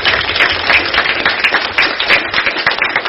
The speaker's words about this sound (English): No one could do their jobs without the support staff, right? So I just want to give another round of applause. We appreciate you, everything that you do.